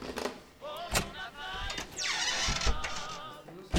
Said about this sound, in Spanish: Ah, alguien abrió la puerta. Voy a ver quién es.